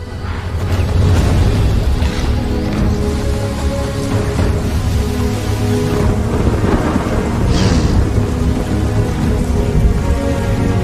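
Steady heavy rain pours down throughout, with loud, deep rumbling thunder rolling underneath and a brighter crack of thunder midway; no voices are heard.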